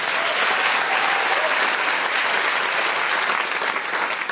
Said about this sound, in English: Thanks, kids. Let's give them a round of applause, everyone.